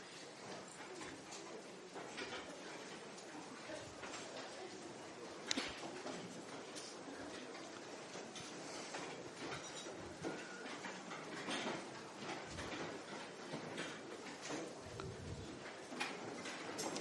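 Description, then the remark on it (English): Chairs in a room being carried to the sides and back of the room and set down: a steady shuffle of scrapes, clunks and wooden knocks overlapping from many directions, with one sharper thud standing out midway. “And then in complete silence, we will carry the chairs to the side of the room, to the sides and to the back.”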